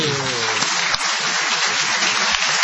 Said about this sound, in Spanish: Y lo veo de aquí a Tom Lupo, ¿es eso, señor? Es Tom Lupo, vamos a aplaudir.